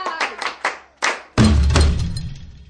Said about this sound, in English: Class, clap for him again.